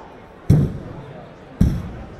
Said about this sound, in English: Is this thing on? Hello? Stop banging it on the podium!